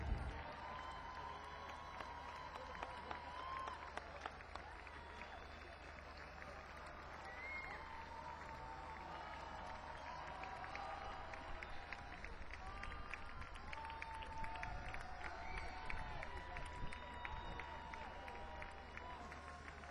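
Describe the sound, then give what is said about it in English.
A large audience at a music performance claps steadily and continuously for an encore, a dense wash of applause with some crowd murmur mixed in, holding at an even loudness throughout with no one speaking. “We'll see you in 1 minute if you clap, because we can come on again then.”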